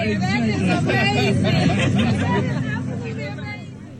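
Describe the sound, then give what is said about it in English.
A crowd of tourists chattering at once at St. Peter's Basilica in the Vatican as they recognize the mayor and shake his hand: a steady, busy babble of overlapping voices with no single clear speaker, tapering off slightly toward the end. “A serene moment that's interrupted by some tourists who recognize the mayor and shake his hand.”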